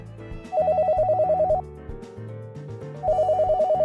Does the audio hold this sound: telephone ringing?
yes